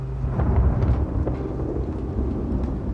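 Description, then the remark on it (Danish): A heavy storm on the evening of 3 December 1999 roars outside the windows with deep, rumbling thunder and a steady wash of wind and rain, loud and continuous throughout with no voices. “Hele faderhusets menighed er samlet den aften, mens stormen raser uden for vinduerne.”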